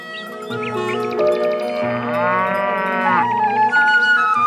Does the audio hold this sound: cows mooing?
yes